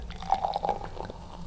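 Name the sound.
pouring a drink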